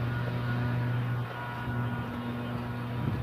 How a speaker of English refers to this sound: Car coming at me with only one headlight.